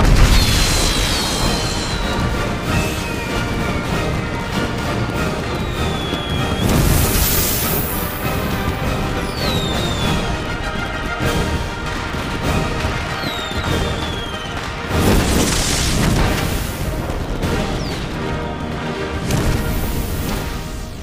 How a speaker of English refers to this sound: But then, of course, you have the 1812 overture and the explosions.